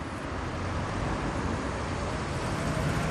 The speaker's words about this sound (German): In Frankfurt am Danziger Platz stehen Autos im Stau, heruntergekurbelte Scheiben, neugierige Blicke.